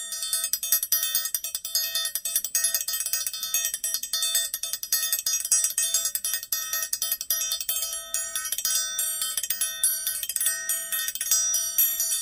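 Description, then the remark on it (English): A triangle struck rapidly and repeatedly, its bright, shimmering metallic ring sustaining throughout with a steady, busy rhythm. Played alone, with no voices. “You know, the little thing you dink on and it makes that bell sound.”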